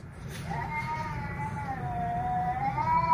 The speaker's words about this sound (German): Und vor allem, nein, das sind die scheiß Katzen